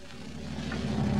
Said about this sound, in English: Now back in the bus station, we find Fibber McGee and Molly watching the bus pull in.